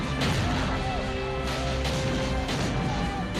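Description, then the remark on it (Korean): Cannon fire from French forces and their Native allies besieging Fort William Henry booms out in a series of about four heavy blasts, irregularly spaced over a continuous low rumble of battle noise. “프랑스군은 원주민들과 합세해서 요새를 포위하고 대포를 써서 맹렬하게 공격을 하고 있었다.”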